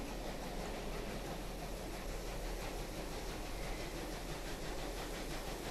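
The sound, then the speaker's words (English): A steady, dense rumble of Australian preserved locomotives running as they make the ascent up Mount Lofty, with a broad roaring wash and faint rhythmic clatter throughout, no voices present. “I'd like to thank listener Automating 13 for sending this field recording of Australian preserved locomotives.”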